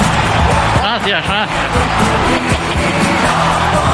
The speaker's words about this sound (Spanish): Hoy venimos aquí para fundar la peña marciana Kylian Mbappé. ¡Se cae el planeta! ¡Oh, ahí está! ¡Ovación de gala!